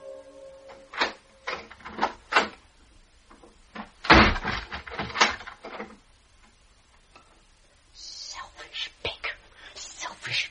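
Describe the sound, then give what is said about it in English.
A heavy door slams with a sharp, booming bang, surrounded by a series of thudding footsteps coming angrily down a stair and drawing nearer toward a door, with some clattering noise near the end. “A door slammed like a blow. Feet thudded angrily down a stair and kept on thudding towards my door.”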